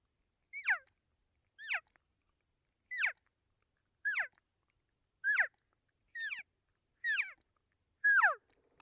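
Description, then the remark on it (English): A latex diaphragm call imitates a cow call, made with minimal air pressure by trapping air between the tongue and the latex and using tongue pressure: eight short, high, nasal mews, each sliding downward in pitch, spaced about a second apart with silence between and no talking. “In fact, you can make a cow sound with minimal air pressure just simply by using tongue pressure.”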